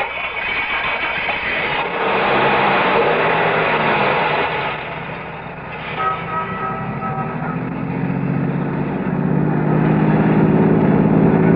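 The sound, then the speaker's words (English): A car engine rumbles, dips briefly, then revs up with a rising tone as the vehicle pulls away and accelerates steadily. No one speaks. “Start your car, head west of the highway, and keep going till I tell you to stop.”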